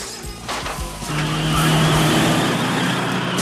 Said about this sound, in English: The spy reverses out sharply. Giving chase, one of the other cars turns down a dark alley, but then crashes into some equipment lying around.